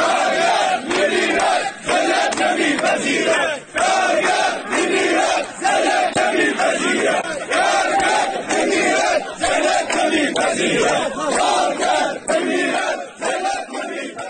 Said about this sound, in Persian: کارگران اعتصابی همچنین با سر دادن شعارهایی به وضعیت قراردادهای کار، دستمزد پایین و عملکرد مدیریت شرکت اعتراض کردند